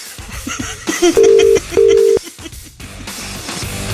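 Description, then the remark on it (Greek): Two steady electronic ringback tones sound on a phone line as a telephone call is dialed and rings, each tone lasting under half a second, set against a busy background with clicks and brief bursts before and after. “Από πού να πάρω τηλέφωνο, το σύνδεσμο του Ολυμπιακού.”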